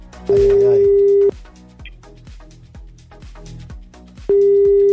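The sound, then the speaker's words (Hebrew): An outgoing phone call to an aunt rings unanswered before going to voicemail: two long, loud ringback tones, about a second each, separated by a pause, with rhythmic background music playing underneath. “דודה דודה, אבל לא עונה דודה.”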